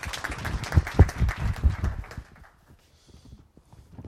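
A burst of audience applause, dense, rapid clapping at moderate loudness for about two seconds, then quickly thinning out and fading to near silence with a few scattered faint sounds.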